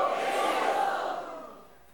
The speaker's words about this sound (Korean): 우리 다 같이 한번 크게 외쳐보겠습니다. 예수! 예수! 예수!